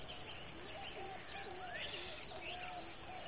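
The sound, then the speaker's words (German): A dense, humid forest soundscape among giant trees: a continuous high insect drone fills the background while several birds call with sweeping, whistled notes. “In diesen riesigen Bäumen, da leben natürlich ganz viele verschiedene Tiere, vor allem viele verschiedene Vögel, Insekten natürlich auch Säugetiere, kleine Äffchen, viele, viele andere Tiere.”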